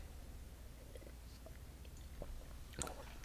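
Someone quietly sips white Zinfandel wine (Frey, from a pink bottle), with a few soft, wet mouth clicks and a slightly louder slurp near the end; no one speaks.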